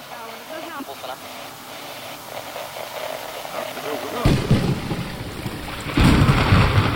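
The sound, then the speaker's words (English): A thunderstorm with strong winds builds from a quieter, steady backdrop into loud, deep rumbles of thunder, with a first heavy roll partway through and an even stronger surge near the end. “The force of devilish winds and sounds of thunder in the skies caused Alan to jolt awake.”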